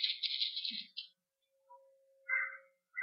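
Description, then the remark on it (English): Crisp, papery rustling of thin onion skin Bible pages being turned to Acts chapter 9 during a sermon, a longer sweep followed by a couple of shorter flicks, fairly quiet with a faint hum underneath. “Onion skin paper.”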